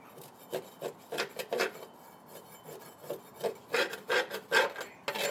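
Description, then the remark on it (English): Repeated rough scraping strokes, fairly loud, in an uneven rhythm with short pauses, as a tool scrapes caked crud off the metal underside of a lawnmower. Nobody speaks. “So, I'm scraping the crud.”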